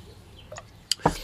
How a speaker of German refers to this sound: Ja, vielleicht könnten wir gerade in diesem auch mal Zusammenhang in dem stoßen wir mal an.